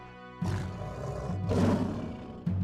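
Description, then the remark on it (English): Lions in the royal menagerie at the Tower of London roar in two deep, rumbling bursts, the second longer and louder, followed by the start of a third; the sound is forceful with a throaty, growling texture. “You've got the lions roaring at you.”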